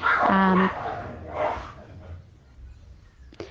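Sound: dogs fighting and barking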